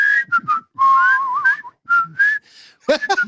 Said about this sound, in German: Gibt ja Leute, die können nicht pfeifen. Könnt ihr Melodien pfeifen, einigermaßen? Melodien.